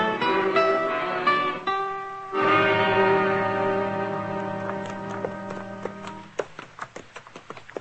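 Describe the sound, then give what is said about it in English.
Horses' hooves clip-clop in a steady walking rhythm beneath sustained, ringing musical tones, the hoofbeats growing sharper and more distinct as the music fades near the end. “Moss, give me Chester's horse, too. We'll pick him up on the way.”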